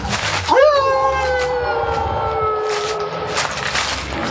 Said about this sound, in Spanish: El aullido del lobo se confunde con el viento ululando. Es extraño que un lobo merodee por estos sitios tan desolados.